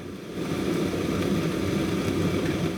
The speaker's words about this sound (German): Das, was ihr im Hintergrund hört, sind Schiffsgeräusche, wie sie unter Wasser von den Tieren im Meer zu hören sind.